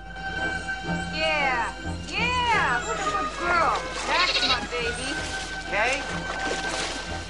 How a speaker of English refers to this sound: In the SeaWorld dolphin enclosure, dolphins perform somersaults. The dolphins skim through the water.